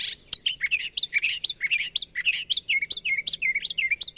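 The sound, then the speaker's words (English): A northern mockingbird sings a rapid, varied stream of bright chirps and whistled phrases, switching patterns every few notes like mimicked songs of other birds, clear with no talking. “The copycat songs of northern mockingbirds.”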